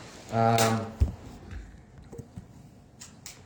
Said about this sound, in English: Close the door.